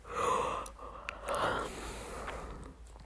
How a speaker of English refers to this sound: Sorry for the yawn, I'm just tired.